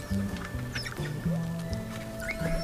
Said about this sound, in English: I believe it's humpback whale mating. Well, the humpback whale music is also there in the background.